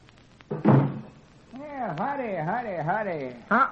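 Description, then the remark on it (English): A short wooden thump, then a long, wavering creak like a door swinging open on squeaky hinges, rising and falling several times before another bump at the end. Fairly loud. It is the door of the jot-em-down store in Pine Ridge as a man enters. “Grandpappy Spears is just entering. Listen.”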